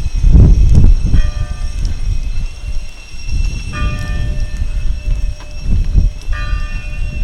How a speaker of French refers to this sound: 8h sonne au clocher de Villadin, le vent souffle.